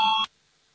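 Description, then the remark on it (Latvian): A single short electronic bell tone, bright and steady, sounds for about a quarter second and cuts off abruptly into near silence: the voting bell in a parliament, rung just before a vote on an amendment. “Lūdzu zvanu.”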